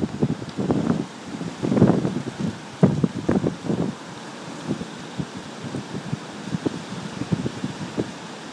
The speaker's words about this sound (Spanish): Aquí la ventana que abro, el viento viene de lado, por tanto no viene de frente y se puede oír bien el ruido que provoca. Oís bosque, árboles movidos y mar toda la vez.